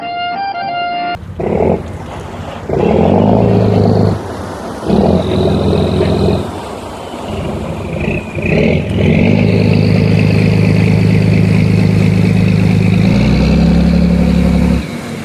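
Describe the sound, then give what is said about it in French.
A barge's diesel engine chugs and rumbles, starting with uneven bursts before settling into a loud, steady low drone that shifts pitch near the end, with no voices. “Mais, sur une péniche, le bruit qu'on a dans la tête, c'est surtout celui du moteur”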